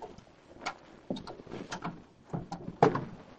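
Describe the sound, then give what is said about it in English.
A car door is unlocked with a key and opened: a series of small mechanical clicks and rattles, then a firmer clunk near the end, with no one speaking. “He unlocked and opened the car door.”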